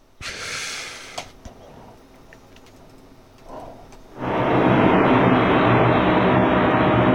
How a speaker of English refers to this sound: You know, there's an interesting thing about sound effects. They don't sound the way they're supposed to sound. In other words, that's the sound effect that says waiting for a plane. Well, that doesn't sound like waiting for a plane,